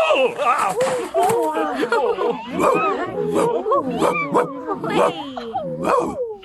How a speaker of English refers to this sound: And a dog.